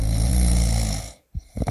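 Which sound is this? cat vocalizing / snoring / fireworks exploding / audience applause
snoring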